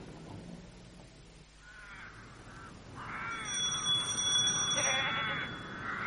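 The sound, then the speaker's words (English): Goats kept by Uncle Max for their milk bleat in wavering, nasal cries, one brief call followed by a longer, louder run of overlapping bleats, with a thin high ringing tone above them and no talking. “Does he keep the goats for his experiments?”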